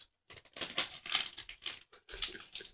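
Seasoned dried nori seaweed being torn and handled: a run of crisp, dry crackling and ripping bursts, fairly loud, in two main stretches with a short pause between, no talking.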